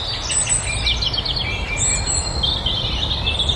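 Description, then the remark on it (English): Faint, distant birdsong drifts in from far off outdoors, a series of thin high chirps and trills repeating over a steady low rumble of background noise. “As I say, we're beginning to have some little bit of bird song away in the distance, and we'll talk to you from not very far away in a few minutes.”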